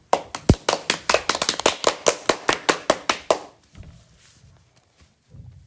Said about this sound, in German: Applaus, Applaus, sensationell!